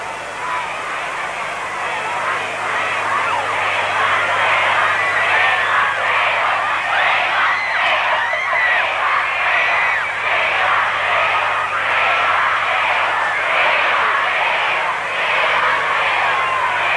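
A large crowd of fans screams and chants "we want" a band whose members lean out of hotel suite windows waving, without pause, a dense wall of high, overlapping voices that stays loud and steady throughout, with a faint low hum underneath.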